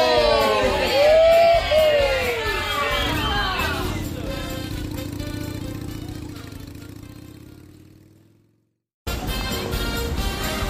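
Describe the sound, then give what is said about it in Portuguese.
A truck's engine rumbles steadily, then winds down and fades as Zacarias slows the truck to a halt in front of Sereia Nguva's house, leaving a brief silence. The opening seconds are busier, with warbling sounds over the motor. “Zacarias para o caminhão em frente à casa da Sereia Nguva.”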